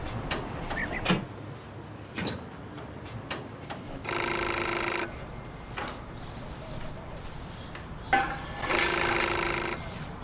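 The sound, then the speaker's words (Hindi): A telephone rings in two bright, buzzing bursts about four seconds apart, clear, with quiet clicks and soft room noise in between. “अगर मेरी माँ फोन उठाए तो लाइन काट देना, समझ गए ना?”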